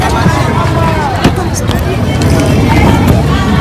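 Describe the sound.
A dense, steady crowd hubbub fills the street during an Ashura mourning procession in Zaria, men, women and babies moving along, many overlapping voices blending into a continuous outdoor murmur, with occasional louder calls and shuffling movement.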